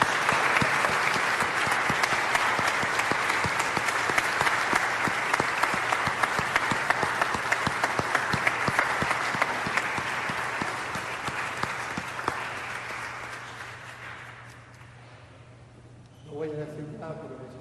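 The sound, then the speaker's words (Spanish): An audience at a Mass applauds a priest warmly with dense, steady clapping for about fourteen seconds, then it fades out and a man starts speaking. “Vamos a darle un cálido aplauso, aunque sea, ¿no, verdad?”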